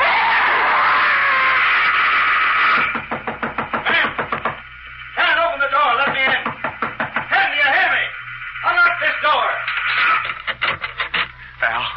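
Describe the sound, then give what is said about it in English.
Rapid, insistent knocking on a door by a woman in the dark comes in several loud bursts of quick raps, with a continuous muffled, wavering vocal sound running underneath throughout. “She was knocking at the door.”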